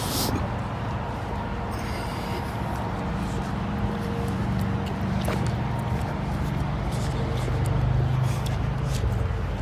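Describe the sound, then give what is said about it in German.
A steady, low rumbling roar of traffic on the A6 motorway in Germany fills the background continuously, a broad wash of engine and tyre noise with no single vehicle standing out. “Dieses beruhigende Geräusch der A6. Ich weiß gar nicht, ob ihr das hören könnt. Aber ich werde gleich unter der A6 durchlaufen.”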